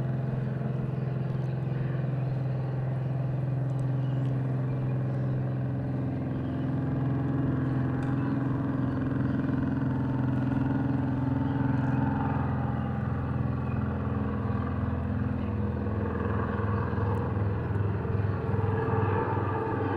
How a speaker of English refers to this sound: But at the ternary site, you have a similar problem with helicopter overflights.